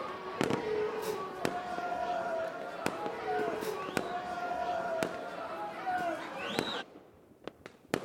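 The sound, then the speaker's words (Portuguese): Fireworks for a princess's birthday party on a three-masted ship, bursting in a steady series of sharp cracks and booms, some with whistling tones, over a busy background, ending with a few scattered pops. “Era o aniversário de uma princesa como ela, com fogos de artifício esplêndidos.”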